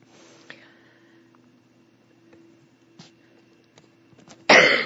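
A few faint throat-clearing noises scattered over near-silence, ending in a sudden loud cough burst. No one speaks.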